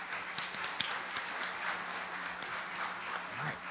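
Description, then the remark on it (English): An audience applauds for a band, a dense, steady wash of many hands clapping at once that holds at an even level for several seconds, with no voices over it. “Can we clap for the band?”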